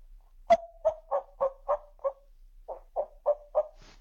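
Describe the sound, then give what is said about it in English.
A voice imitates a hen just waking up, with very quiet, muffled clucking: about eleven low, short clucks in a steady rhythm, split into two runs by a brief pause, with no speech over them. “But if it's something, you know, if I want to try to mimic a hen who's just waking up, it's a very quiet kind of clucking, almost like you put in your shirt and you're muffling it, kind of like a...”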